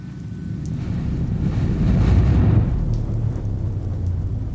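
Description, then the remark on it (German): Steady rain hisses over a heavy, deep rumble that swells toward the middle and eases off slightly. It is continuous and fairly loud, with no voices. “Ich stand mit dem Brief in der Hand im Regen.”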